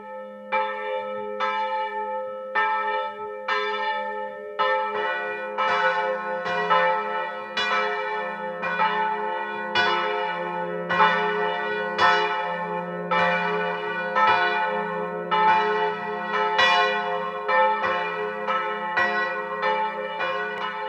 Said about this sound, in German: Es ist 12 Uhr. Sie hören die Glocken der evangelischen Pfarrkirche von Unterschützen im Burgenland.